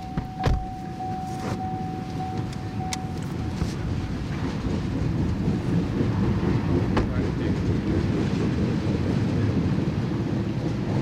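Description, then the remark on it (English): A long freight oil train, an orange BNSF engine pulling black oil tank cars, rolls steadily past by the tracks north of Seattle at night in the rain, a heavy continuous low rumble with periodic clicks and clanks of wheels over rail joints, plus a brief sustained tonal whine early on. “The orange BNSF engine emerges from the tunnel, and then the black, pill-shaped oil cars, one after another.”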